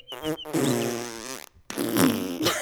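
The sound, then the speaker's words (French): A voice blows a loud, buzzy raspberry imitating a sparrow farting, two sputtering bursts with a brief pause between them, with no other talking. “Petit oiseau, passant dans un petit bois, j'ai entendu un moineau péter.”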